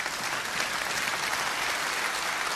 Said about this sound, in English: And the best way, go ahead and clap if you want.